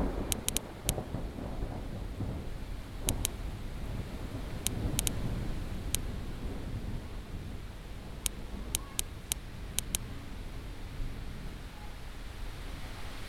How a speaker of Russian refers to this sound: «Люблю грозу в начале мая, когда весенний первый гром, и на дворе действительно май, только вот грозы по-прежнему неуловимы».